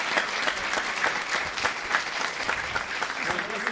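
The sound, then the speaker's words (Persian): A crowd claps steadily, the many overlapping hand claps forming a dense, crackling wash of applause that holds at an even loudness throughout. “ای جان تشویقش کنی؟”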